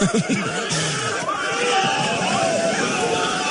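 crowd screaming

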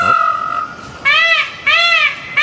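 bird call

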